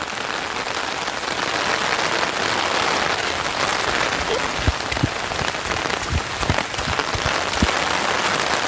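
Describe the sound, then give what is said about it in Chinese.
Steady rain hisses, a dense, even patter with no voices, joined in the second half by scattered soft thumps, like heavy drops striking nearby. The rain falls during a morning outdoor run beside a hiking trail in China. “这边有一条登山道，不能登山，因为是下雨天。”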